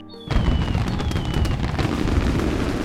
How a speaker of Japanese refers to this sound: 次々に打ち上げられるカラフルな花火がさまざまな模様を描いて美しい。